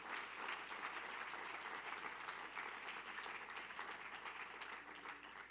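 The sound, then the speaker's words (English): An audience at Grace Church claps their hands together in steady, dense applause that holds at an even, loud level for several seconds, with no voices standing out above the clapping. “If you will do that today, would you clap your hands for Jesus?”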